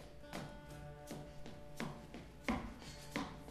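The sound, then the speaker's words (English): Percussive dance footwork doing chug steps (a flat step, then a hop back): about five sharp, solid stomps land in a steady, even rhythm with no talking, over a faint steady hum. The last two strikes hit a little harder. “So you can hear, it's called percussive dance because it becomes part of the music.”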